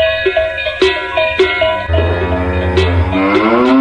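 A cow gives a long, low moo with a rising, drawn-out tone, accompanied by several bright cowbell clangs ringing out, all fairly loud.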